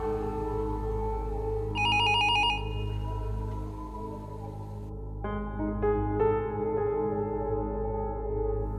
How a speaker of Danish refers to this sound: Senere samme aften ringer telefonen hos Rigspolitiets rejsehold